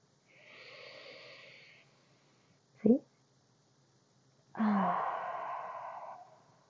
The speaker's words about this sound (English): You're not breathing very much. You should work on that. Why don't you take a deep breath?